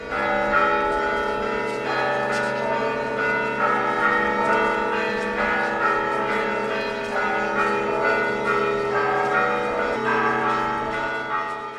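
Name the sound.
church bells ringing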